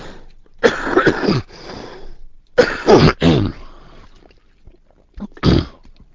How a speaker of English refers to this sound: Excuse me, and I have another cough and a little drink of water.